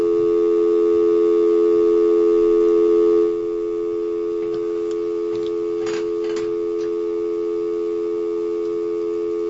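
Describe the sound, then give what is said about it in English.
A steady telephone line tone hums throughout, briefly interrupted by a few short dialing blips in the middle as someone dials out to call a person, with a busy-signal quality and no voices present. “We're ringing them, folks.”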